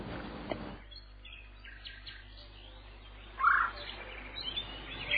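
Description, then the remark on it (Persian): Soft bird chirps scattered over a quiet background, with one brighter, closer call partway through and a few faint tweets following it. “لحظه ای به صدای چکاوک گوش کن، دمی پای آواز قناری بنشین”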